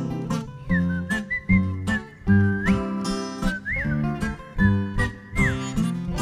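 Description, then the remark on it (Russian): A person whistles a lilting tune with sliding notes, loud, over a busy instrumental backing with steady rhythmic beats. “Но дома скучно одному съедать свои котлетки и одному свистеть во тьму ночами на кушетке.”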